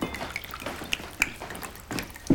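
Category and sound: food or drink, red wine being poured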